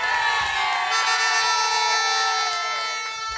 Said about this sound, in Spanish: Ahí sí ya parecía un partido de fútbol. La gente le hacía ruido, aplaudían, había pito, corneta, mejor dicho, un mundial.